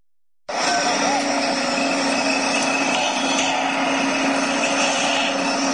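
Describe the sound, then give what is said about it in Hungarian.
A power tool starts up abruptly and runs at a steady, loud whine with a buzzing drone, construction work on the half-finished Pressburger house in Miskolc, Hungary, continuing without pause until the end. “Építkezés hangjai.”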